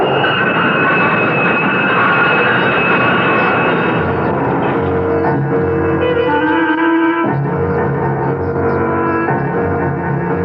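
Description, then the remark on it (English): A loud, roaring train rushes into a station along the platform, a dense mechanical rumble with shrill metallic tones rising and shifting as it barrels in, continuous for the whole stretch with no voices. “Deke started to fall helplessly in the path of the onrushing train”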